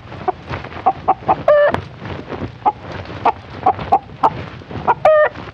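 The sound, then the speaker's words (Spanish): A rooster named Huberto clucks in quick, uneven bursts, broken twice by a longer, higher, strained crowing call that rings out over the steady clucking. No one speaks. “Enseguida, sus esclavos corriendo trajeron al gallo.”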